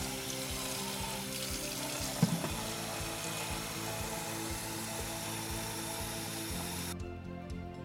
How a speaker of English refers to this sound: Remove the container on the top, open the lid, and fill it with regular tap water.